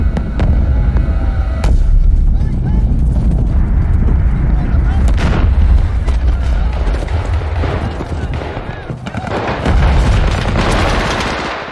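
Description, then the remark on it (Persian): Heavy, continuous battle noise of the Viet Cong and North Vietnamese attack on South Vietnamese cities and bases, including Saigon: booming explosions and bursts of gunfire crackle over a dense low rumble, loud throughout, with a muffled voice buried in the din. “ژنرال وستمورلند در سایگون اولین انفجارها را با ترقه‌های اید اشتباه گرفت”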